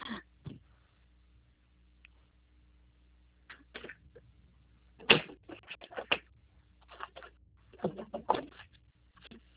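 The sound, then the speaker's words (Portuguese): Someone rummages for a pen to write down a protocol number during a phone call: irregular bursts of clattering, scraping and light knocks, with short pauses between them and a busier cluster of handling noise toward the end. “Um momento, eu tô pegando aqui uma caneta.”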